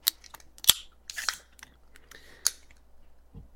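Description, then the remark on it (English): A drink can is cracked open: a sharp metallic snap, then a brief burst of fizzing hiss, followed by a few softer clicks and one more crisp pop, with no talking. “So getting ready to crack this thing in 3, 2, 1.”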